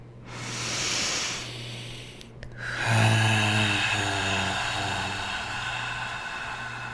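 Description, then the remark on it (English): A deep breathing exercise: a long, hissing inhale of about two seconds, a brief pause, then a drawn-out, airy exhale with a low hum underneath that fades slowly over four seconds. “It's always great to start off our show getting that oxygen into our lungs, into our bloodstreams, up to our brains.”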